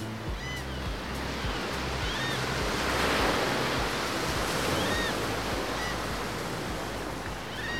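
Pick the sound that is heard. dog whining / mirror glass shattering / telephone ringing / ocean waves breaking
ocean waves breaking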